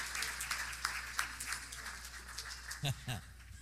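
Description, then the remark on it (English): An audience applauds in praise of the Lord one morning, a dense, steady patter of many hands clapping at moderate volume, with a short voiced shout rising over the clapping near the end. “Well, let's give the Lord a praise this morning.”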